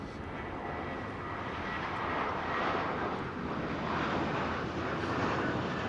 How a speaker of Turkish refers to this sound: Sırtları bize dönük otururken hemen karşılarında yerden yeni havalanmış gökyüzüne doğru yükselen uçağı izliyorlar.